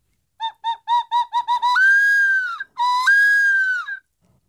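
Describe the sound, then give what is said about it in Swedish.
A hunting lure call imitating a red fox vixen's mating cry: about seven quick, yelping barks in a rapid series, then two long, drawn-out, piercing screams, loud with no talking. “Här kommer några exempel på hur det kan låta. Rödrävstikens brunstläte.”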